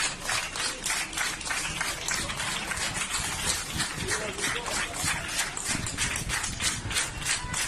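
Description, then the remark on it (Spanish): Employees of a hotel in Mallorca clap steadily at the arrival of the first German tourists on the island after the start of the state of alarm, a dense, even patter of many hands with no pauses and no single standout claps, holding at a constant moderate loudness. “Son los aplausos de los empleados de un hotel de Mallorca a la llegada de los primeros turistas alemanes a la isla tras el comienzo del estado de alarma.”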